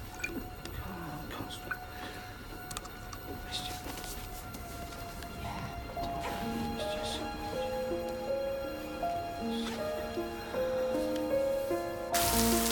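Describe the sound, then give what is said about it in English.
Steady rain streams, trickles and drips down the windows of a cafe on a deserted street of grey buildings, a soft, continuous wash of patter; about halfway through, gentle sustained musical tones rise in beneath it. “A deserted street of grey buildings as rain streams down the windows of a cafe.”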